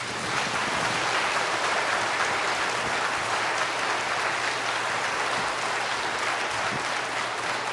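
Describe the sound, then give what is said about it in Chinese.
An audience applauds to welcome new brothers and sisters joining God's family, in a dense, steady wash of many hands clapping. The applause stays at an even, fairly loud level for the whole stretch with no voices on top. “我们也用掌声来再一次的欢迎今天做出了人生最重大决定的新的弟兄姊妹，欢迎他们加入神的家庭。”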